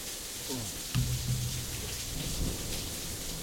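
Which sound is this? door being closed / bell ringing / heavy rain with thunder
heavy rain with thunder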